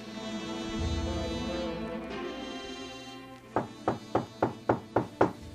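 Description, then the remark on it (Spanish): A steady series of about seven firm knocks on a door at dawn, evenly paced and fairly loud, following a few seconds of soft, sustained tonal background sound with no talking. “Al amanecer, el sueño lo había vencido cuando escuchó llamar a su puerta.”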